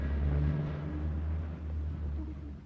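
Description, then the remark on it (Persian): A milk truck engine rumbles steadily with a deep, droning low hum that holds throughout, fairly loud, with no voices. “گربه ها و موش کوچولو بیدرنگ عقب ماشین پریدن و از شانس خوبی که داشتن ناگهان متوجه شدن که سوار یک کامیون حمل شیر هستن.”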